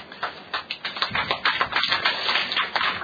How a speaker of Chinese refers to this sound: 真系醒目吓，唔使呼吁拍手。